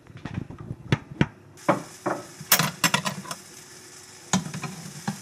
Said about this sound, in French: Une fois que le pancake est tout plein de bulles, il est temps de le retourner. Et puis ça, on y va juste avec 2 cuillères, paf paf.